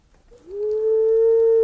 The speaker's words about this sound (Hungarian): Még jobban, mikor egy bagoly szólalt meg az odvasfa tetején.